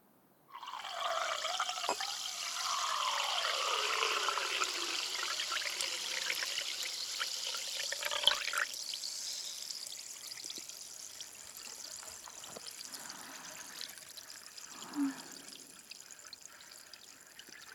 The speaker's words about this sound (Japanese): 新しいグラスを用意して、ここからは両耳同時に炭酸音を聞かせてあげるね。